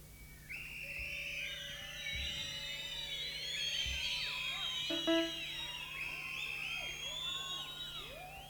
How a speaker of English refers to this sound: Is there more than one Acme Thunderer in the audience? Everybody that's got a whistle, blow it.